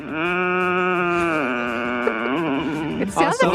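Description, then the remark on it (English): A person vocally imitates how their partner moans in her sleep: a long, sustained, droning groan that holds a low pitch, then wavers and bends in the second half before breaking off with a short rough gasp. “Her worst habit is she's one of these people, she doesn't snore in her sleep, she moans in her sleep.”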